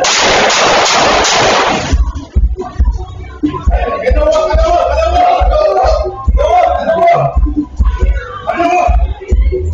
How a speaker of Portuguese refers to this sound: O policial, que estava em uma mesa, deita no chão e, no momento de distração do suspeito, ele efetuou 4 disparos.